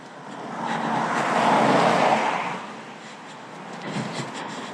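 car passing by

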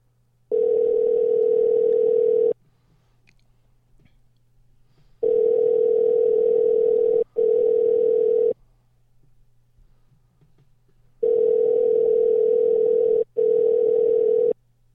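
outgoing phone call ringing

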